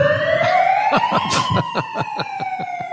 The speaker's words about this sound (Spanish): Le prenden un megáfono, una sirena de megáfono para que no pueda hablar así...